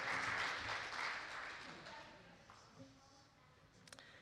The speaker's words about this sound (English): Can you give them a round of applause, please? Thanks, guys.